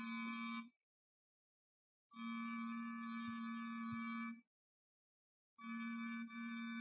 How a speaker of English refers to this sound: You ring the bell. Yeah, all right.